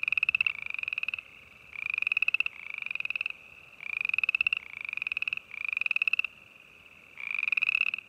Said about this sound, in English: Maybe it's the boreal chorus frog.